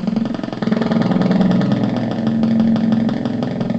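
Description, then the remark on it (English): A synthesized motorcycle engine, made by speeding up an input stimulus, idles steadily as if at a stoplight, a continuous low rumble with a fast pulsing throb and buzzy overtones, loud, with no voices. “The motorcycle is idling.”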